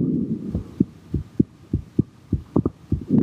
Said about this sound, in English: The heartbeat serves as a drumbeat to the guitar music played by therapist Brian Schreck.